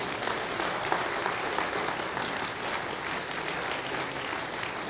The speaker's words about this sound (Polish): Chwała Jezusowi. Ja wiem, że wiele tych rąk, które teraz klaszczecie na chwałę Pana Jezusa, wiem, że te same ręce wznosiły się o mnie w modlitwie i dlatego wam dziękuję.